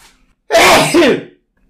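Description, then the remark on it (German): A single loud sneeze bursts out after a moment of quiet, a sharp explosive blast that trails off with a breathy tail. No one speaks. “Oh, ich muss niesen.”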